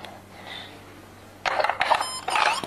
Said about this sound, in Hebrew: לא, זה עובד, זה מצפצף רק כששמים את זה בפנים.